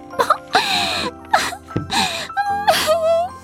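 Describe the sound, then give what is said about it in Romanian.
A boy cries out in pain after falling 4 metres onto construction materials, in several sharp, wailing bursts with gasping breaths between them, loud, no words spoken. “Țipătul lui de durere a determinat-o pe mamă să se întoarcă și când a văzut ce s-a întâmplat, vai!”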